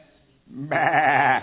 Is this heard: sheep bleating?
yes